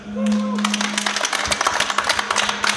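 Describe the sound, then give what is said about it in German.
A crowd breaks into a brief round of applause, many hands clapping densely at moderate distance, with a steady electronic hum and a faint whistling tone underneath. “Und damit man euch auch mal hören kann, gebt noch mal so einen kleinen Applaus.”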